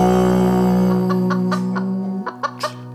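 Chickens cluck in a quick, irregular series of short, sharp bursts over a steady, sustained musical tone, moderately loud, with no one talking.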